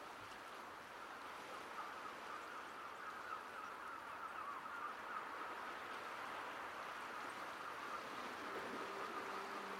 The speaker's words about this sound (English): With the breeze comes the pleasant, briny smell of the ocean, the sound of seagulls calling overhead signals that you're near the coast.